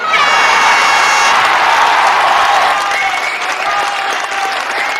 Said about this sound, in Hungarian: Mi lenne, hogyha küldenénk egy nagy tapsot a Zencaster csapatának, akik lehetővé tették ezt az adásfelvételt?